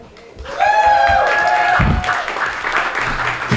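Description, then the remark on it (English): An audience applauds in a steady, dense wash of clapping that starts abruptly and carries on to the end, with a high, wavering cheer riding over the first couple of seconds. “You're all applauded out.”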